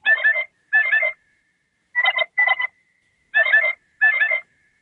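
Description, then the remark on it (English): An electronic bird call from a ceramic novelty bird mug of about 16 ounces, set off by lifting it, one of about eight bird sounds it makes: three evenly spaced pairs of short, raspy, mid-pitched chirping bursts, loud and alone, with a thin faint tone lingering between them. “So it does various, it does about eight different bird sounds.”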